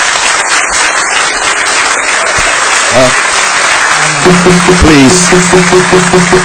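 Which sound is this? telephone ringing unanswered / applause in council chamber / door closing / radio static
applause in council chamber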